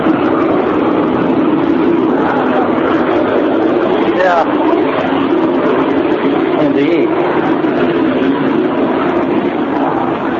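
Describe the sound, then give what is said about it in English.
A jet aircraft taxis by about 10 feet away, its engines producing a loud, steady, continuous roar with a low hum throughout, while muffled voices are faintly audible beneath the noise. “I got the Gulfstream AP on the left, the rear jet here on the right, about 10 feet away. Taxiing by.”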